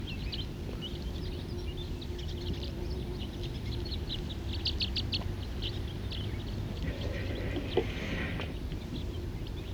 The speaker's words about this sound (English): Right now there's a mixed flock of crossbills and siskins.